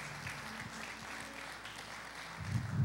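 crowd, audience clapping

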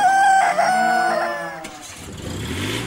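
bird, rooster crowing

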